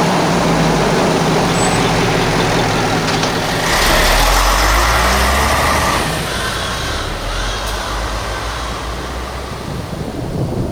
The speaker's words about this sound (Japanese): 宇宙センター行きのバスが来ましたよ。